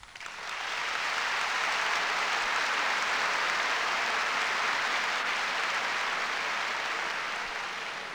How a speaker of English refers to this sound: And I believe that applause is an expression of the student feeling for your participation in that early forum, which has been followed by more successes.